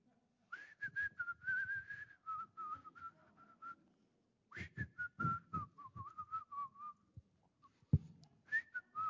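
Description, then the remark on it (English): Someone whistles a wandering tune while taking out the trash, in two long phrases separated by a short pause, with breathy puffs and a few soft knocks underneath. “I was whistling the whole time.”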